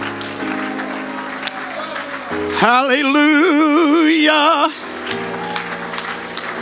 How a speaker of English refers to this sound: Why don't we give him a good hand clap of praise in this house this morning? Hallelujah. Come on with your hand clap.